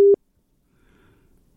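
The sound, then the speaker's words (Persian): A phone busy tone after a listener's call-in to a radio programme dropped: one short, loud, steady mid-pitched beep, then near silence with faint low murmuring noise. “تماس شنونده عزیز با ما قطع شد.”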